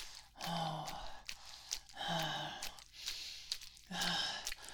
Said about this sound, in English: Look at me. I'm panting like a dog.